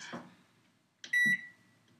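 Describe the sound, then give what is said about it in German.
A single loud, steady electronic beep from a microwave oven, lasting about a quarter second, preceded by a soft click or thud, with nobody speaking. “Okay, wir dürfen jetzt nur noch Effekte nutzen. Mikrowelle.”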